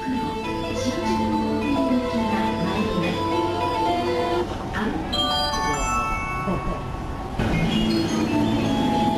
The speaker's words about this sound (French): Mais oui, des mélodies de quai qui signalent aux usagers l'entrée des trains en gare et leur départ. En voici quelques autres, j'ai sillonné les gares pour vous.